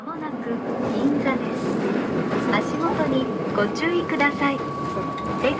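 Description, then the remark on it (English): Steady rumbling inside a moving train in Tokyo, Japan, travelling to Ginza, with continuous low-frequency noise and a faint tonal hum, while muffled voices murmur throughout. “I'm taking the train to Ginza.”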